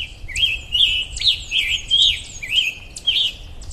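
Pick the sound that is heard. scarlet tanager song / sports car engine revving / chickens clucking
scarlet tanager song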